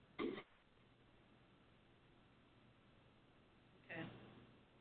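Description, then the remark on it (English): Two short, harsh throat-clearing coughs from a coughing attack, one at the start and another about four seconds later, with a quiet low hum in between. “I had to leave with my coughing attack, but I'm back.”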